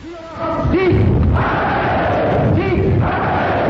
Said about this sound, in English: Applauding on cue the words of the leaders.